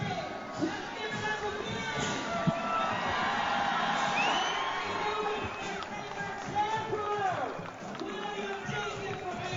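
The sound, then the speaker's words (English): A large outdoor crowd cheers and shouts continuously as the LSU Tiger Band, a marching band of about 200 members filling the street, passes by, with scattered whoops and excited voices rising over a steady, dense roar that stays loud throughout. “Crowd's eating it up out here, loving the LSU Tiger Band.”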